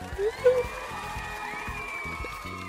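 A burst of crowd applause mixed with cheering and a couple of high whoops at the start, then settling into a steady, fairly loud wash of clapping and crowd noise.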